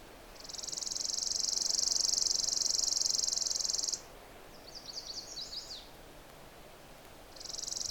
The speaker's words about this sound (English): That sort of, not really insect-like, but kind of a tight trill. Not very musical. It's a chipping sparrow. And we're hearing it in this kind of wild place.